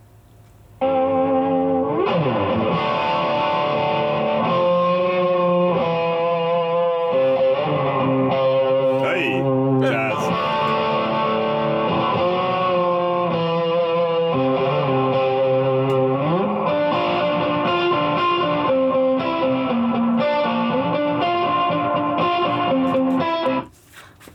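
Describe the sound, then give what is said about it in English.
Heavily effects-processed tones play continuously for over twenty seconds, shifting pitch in layered, distorted chords with a washy, reverberant sheen and reverb tails, then cut away near the end. No voices. Played through studio speakers and picked up by small Zoom microphones. “No, it's really cool, and having the reverb tails and everything at the end too.”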